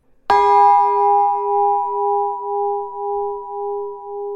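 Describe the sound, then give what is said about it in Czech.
A single clear strike of a bell at Pecka Castle, its bright tone ringing out and slowly fading with a gentle wavering pulse, heard alone with no voices. “Nebudu dopředu prozrazovat, co to je za zvon, ale v průběhu našeho povídání s panem kastelánem se k tomu zvonu i k tomu orchestrionu i k dalším věcem určitě dostaneme.”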